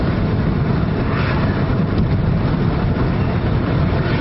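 A car's steady engine and road rumble drones on without a break as the car keeps driving downhill, descending below sea level. It is loud, as if heard from inside the vehicle, with no talking over it.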